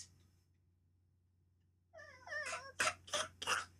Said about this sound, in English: Your cat is choking. Your cat is choking. Are you just going to let it sit there and choke on its own hairball?